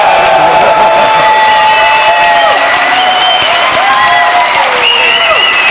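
Loud, sustained applause from a game show audience cheering for Team Blue on Familienduell, with whoops and high-pitched cheering rising over the dense clapping throughout.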